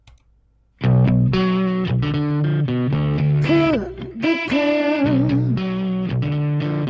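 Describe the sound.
After a brief near-silent moment, a loud distorted rock song kicks in abruptly, with heavy fuzzy guitar chords and a singer's voice carried steadily over the band.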